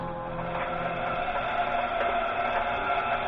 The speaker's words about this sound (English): Pinging and screw noises make them pretty close.